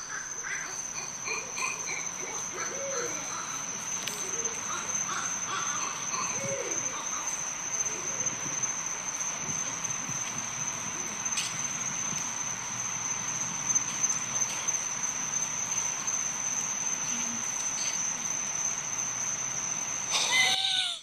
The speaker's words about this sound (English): We don't just tell you about owl fights. It is a straight up owl fight.